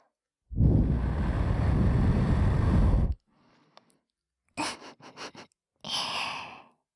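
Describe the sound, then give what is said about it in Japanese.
A long, soft breath is blown right up against the right ear to blow away fine debris after ear cleaning, a rushing whoosh lasting a few seconds. After a pause come a few shorter puffs and one final gentle blow. “それじゃ、お耳の細かいカス、吐息で吹き飛ばしてあげるね。”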